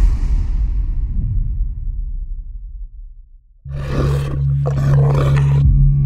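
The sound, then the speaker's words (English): A deep, rumbling monster roar slowly fades, then a sudden, louder growling roar erupts with a harsh, gravelly texture over a steady low drone, holding to the end. No one speaks. “Upon hearing the words, "The time is now," Duncan Cameron unleashed a monster from his subconscious.”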